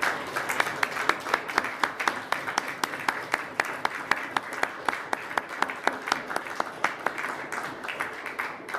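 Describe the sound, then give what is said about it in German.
An audience applauds the two organizers of a semester lecture series steadily for several seconds, a dense patter of many hands with sharp individual claps standing out in an even, moderately loud rhythm, with no talking over it. “Ich glaube, euch beiden gebührt jetzt wirklich einmal ein kräftiger Applaus.”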